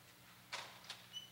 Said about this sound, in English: Why don't you just open that door up there, brother? Right in the back. Can you open that for me? Yep. Is there a way to keep it open?